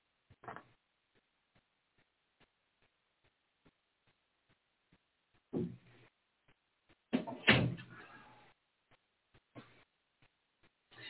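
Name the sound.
door being shut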